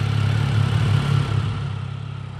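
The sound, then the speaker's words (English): Street traffic on a commercial strip in Portland, Oregon, with a steady, low engine rumble, like a vehicle idling or passing, holding at a constant moderate loudness for a couple of seconds with no voices. “To see this process in action, I headed to a commercial strip here in Portland, Oregon.”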